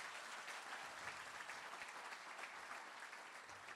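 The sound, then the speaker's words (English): A round of applause fills the whole stretch, steady dense clapping from a crowd with no pauses, moderately loud, with no voices standing out. “Well, and I think that's another round of applause there.”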